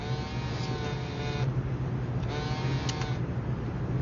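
phone ringing

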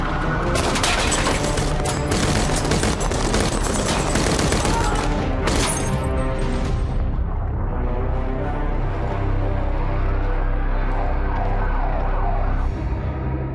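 gunfire

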